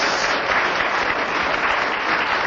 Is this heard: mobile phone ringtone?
no